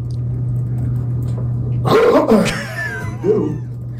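A sudden, sharp cough with the explosive build and release of a sneeze, followed by a smaller second burst, over a steady low hum.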